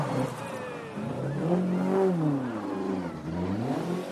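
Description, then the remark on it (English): A rally car, an Escort, revs hard and climbs in pitch as it accelerates, then the loud, rising whine sweeps past and changes tone as the car moves on. “It's the first of the escorts.”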